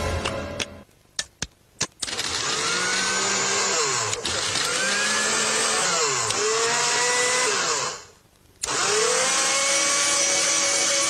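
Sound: electric blender running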